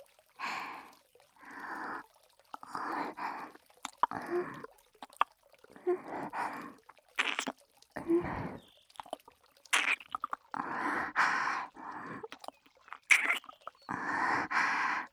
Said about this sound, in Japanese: まだまだお耳舐めてあげますからね。右耳がかわいそうですから、今度は右耳をたっぷり舐めて差し上げます。